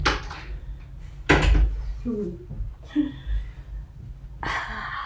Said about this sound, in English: I'm just gonna shut my door here. My doggo came in.